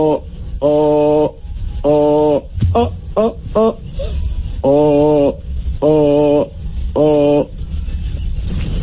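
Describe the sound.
A voice imitates SOS in Morse code, humming loud beeps: a few long tones, a quick run of short ones, then long tones again, with brief gaps between.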